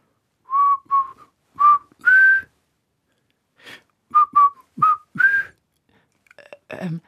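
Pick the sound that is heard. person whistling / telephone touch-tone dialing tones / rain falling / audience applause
person whistling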